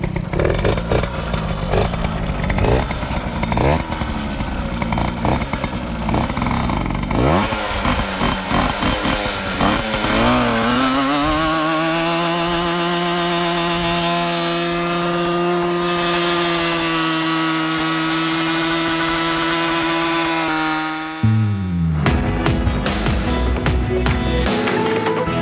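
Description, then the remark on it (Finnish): A small two-stroke moped engine revs hard and holds a high, steady whine for several seconds, as if spinning its rear tire in a burnout, then drops abruptly and sputters back to a rough idle. “No kyllä se sit vaan, kun saa tarpeeksi kierroksia ja kumi vaan pyörii silleen, että se ei ole pomppii.”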